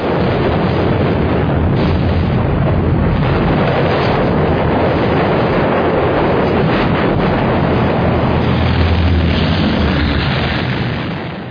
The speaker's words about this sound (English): These are actual explosions. You're blowing stuff up. Yeah. We were crazy.